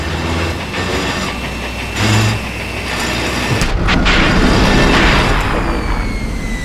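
A heavy mining drill in an open pit mine grinds with a steady low mechanical rumble, then jolts with a sudden clunk partway through and continues rougher and louder, as if snagging on something.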